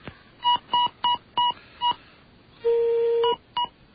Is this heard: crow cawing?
no